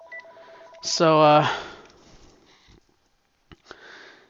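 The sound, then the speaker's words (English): Steady electronic telephone keypad tones sound at the start as a phone is silenced during a call from a toll-free number, followed by a loud, brief burst of voice and then quiet handling noises and a couple of faint clicks. “So I just had to turn off the phone.”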